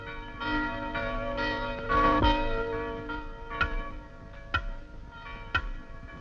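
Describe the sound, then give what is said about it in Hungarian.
A church bell rings repeatedly with rich, sustained harmonic tones, each strike blending into a lingering resonant hum, several distinct clangs standing out near the end. “Megszólalt a harang. Lehetünk a templomba.”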